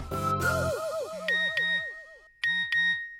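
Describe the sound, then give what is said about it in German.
A flurry of bright smartphone message-notification chimes and pings, clear, overlapping and repeating in quick succession with short gaps, with no one speaking. “Und schon wieder eine neue Nachricht.”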